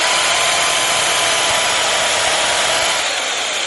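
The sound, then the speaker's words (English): A power drill whirs steadily and loudly for a few seconds, a constant high-pitched mechanical buzz with no pauses and no voices. “Experimenting with drill music.”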